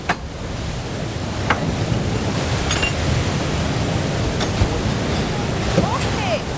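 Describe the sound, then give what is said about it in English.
The river Brosna rushes steadily past the water wheel it powers, a loud, unbroken wash of flowing water broken now and then by brief splashes and knocks. “This is the river Brosna flowing through here, and this is what's powering our water wheel.”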